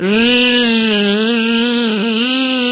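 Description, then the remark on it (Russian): A furry bumblebee flying in to a flower gives a loud, continuous low buzz that drones steadily for about three seconds, its rich, rasping hum wavering slightly and dipping briefly in pitch near the end, with no voices. “Не успела она еще договорить, как жужжанием налетел мохнатый шмель и прямо к цветочку.”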